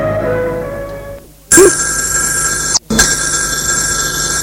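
A telephone rings loudly, two long bursts of a bright electric bell separated by a brief pause, heard alone without any talking.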